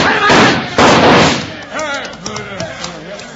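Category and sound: impact, gunshots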